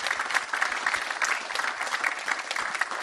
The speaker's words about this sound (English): I want to have a super loud applause for everyone here who has helped to organize this great event. Please have a huge applause for everyone for OW2.